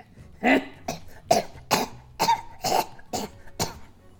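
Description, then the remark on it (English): A man's wet, phlegmy hacking cough, about eight rough bursts in a quick, uneven series, fairly loud with no talking. “He just starts hacking and coughing. It's kind of a wet, nasty, phlegmy sound.”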